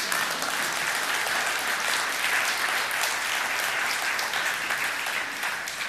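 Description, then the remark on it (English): A church audience claps steadily for several seconds, a dense, even wash of many hands with no gaps and no voices on top, holding at a constant level before easing slightly at the end. “Do you clap in this church?”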